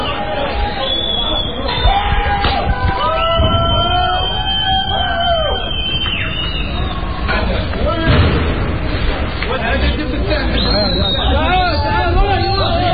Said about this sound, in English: Okay, here comes the Jeep. And I'm running with people. Okay, the last of the last are running. Okay, I want to throw a rock, but I'm holding this damn microphone. People scream every time the Jeep rolls away.